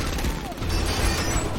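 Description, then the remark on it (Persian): A rapid volley of gunfire crackles in a dense, continuous burst as a group fires at a vehicle's engine, loud, with sharp reports blurring together over a rumbling low-end background. “همه این راه شلیک کنند. موتورش رو هدف بگیرید.”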